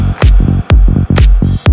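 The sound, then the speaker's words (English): A loud electronic beat building a drop, where sharp, bright clap hits land on a steady pulse about twice a second, punched along by deep booming kicks, with no voices. “Here comes the clap.”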